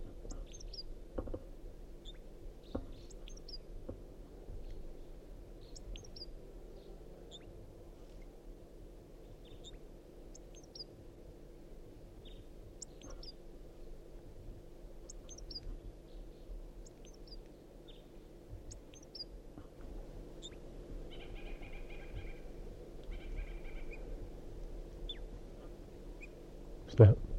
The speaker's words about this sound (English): The male's in song. Stop. Start recording wild crossbill.